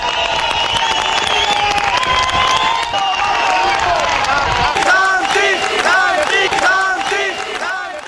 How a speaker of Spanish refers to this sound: A su salida, con cargos, sus compañeros le aplaudían durante casi un minuto.